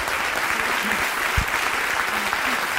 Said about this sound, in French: Un triomphe. Un triomphe. Une standing ovation.